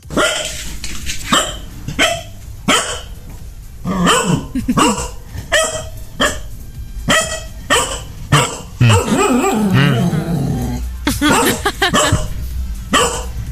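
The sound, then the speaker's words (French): A dog barks over and over in a loud, irregular series of sharp yaps and woofs, with a slightly compressed, phone-recorded quality and no one speaking; the barking was left as a voice message sent from a smartphone. “soit c'est un chien qui a pris le smartphone, qui a téléchargé l'application 6-10 et qui a laissé un message”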